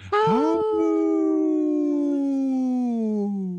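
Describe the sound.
A person imitates a wolf howl: one long, loud howl that swoops up quickly, then holds and slowly slides downward for several seconds before fading slightly.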